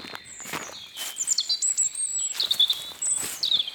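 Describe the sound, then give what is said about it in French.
A European robin sings in thin, high, warbling phrases that rise and tumble, never the same, while footsteps crunch steadily underneath. “Chante un rouge-gorge là-bas.”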